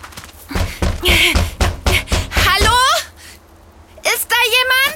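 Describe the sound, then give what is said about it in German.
Loud, rapid knocking on a swimming pool building's door early in the morning, a quick series of hard raps, with children's high voices calling out "Hallo" over and after the knocks. “lass uns ganz laut dagegen klopfen und rufen.”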